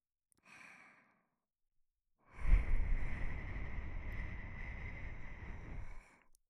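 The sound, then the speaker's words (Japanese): A soft, short exhale is followed by a long, strong breath blown into the ear, a steady airy rush lasting several seconds before trailing off. No one speaks. “吐息を吹きかけられたり、”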